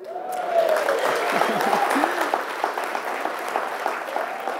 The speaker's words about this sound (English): And that applause is for you in this amazing program of recovery. I think it's a big deal.